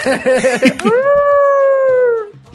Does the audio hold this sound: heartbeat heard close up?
no